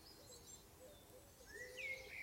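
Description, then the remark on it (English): Soft birdsong: a few thin whistled chirps and a rising trill drift over a quiet, faintly hissing outdoor background, with no one talking. “And now just focus on the different birds you can hear and let yourself gently be soothed.”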